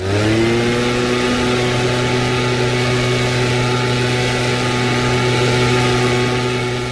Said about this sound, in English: The sound of leaf blowers that fills the autumn air, a volume that can reach as much as 100 decibels.